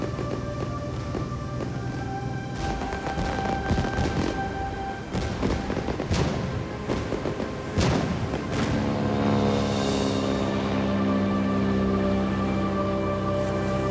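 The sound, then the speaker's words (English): Fireworks burst overhead in a rapid string of loud crackling booms, several sharp explosions standing out amid the rolling clatter, with a steady orchestral tone sustained underneath. “waves her arms as the fireworks burst in the sky above her.”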